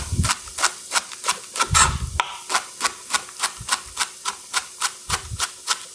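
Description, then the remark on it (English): A knife dices leek on a board in a steady, quick rhythm, about sixteen crisp taps over six seconds, some with a duller thud underneath. Nobody speaks. “Okay, one more piece of leek and we're good to go.”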